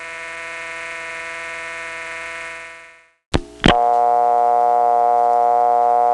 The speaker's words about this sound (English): This dial tone was found in rural areas served by the Bell system.